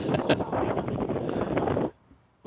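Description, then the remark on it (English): Loud, rough wind buffeting a caller's phone microphone in New Mexico, a dense rumbling roar that runs steadily for about two seconds and then cuts off abruptly into near silence. “Oh, it just sounded really windy.”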